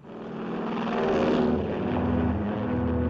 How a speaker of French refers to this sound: Le 7 décembre 1941, à l'aube, 350 avions chargés de bombes fendent le ciel au-dessus de l'océan Pacifique.